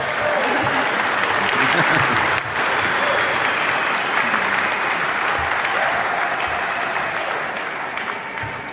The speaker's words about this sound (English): Does anybody hear this cheering going on? I think they're having more fun in that room over there than we are, so let's let them know we're having fun in here, too.